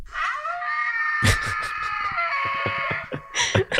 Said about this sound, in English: So on the theme of zombie deer and the like, I've gone with some kind of deery, elky animal.